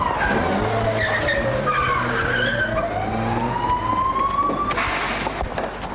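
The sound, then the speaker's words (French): A police car roars up with tires skidding loudly, a long screeching squeal that bends down and back up over rumbling engine noise, with no one speaking. “La voiture de police arrive.”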